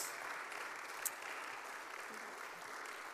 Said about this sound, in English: Amen. Give the Lord a clap offering in this house.